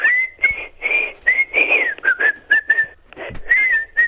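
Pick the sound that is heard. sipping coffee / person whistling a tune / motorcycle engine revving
person whistling a tune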